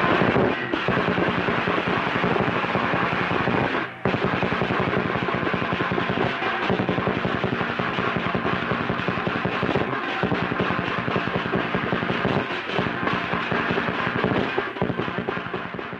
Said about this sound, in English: and sort of creating a kind of sea of sound that the paraders and the crowd is really swimming in as they listen to the drums and the gongs and the shouting and all the wonderful sounds. And I see that, yes, this was 1930 on Mott Street. Listen.